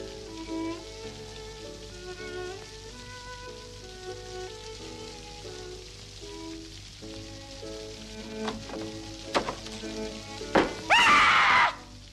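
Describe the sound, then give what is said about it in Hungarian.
Steady rain patters over a soft tonal musical background, with a couple of sharp knocks and a louder, crackling splash of rain near the end. No one speaks. “Hát, hogy esik az eső?”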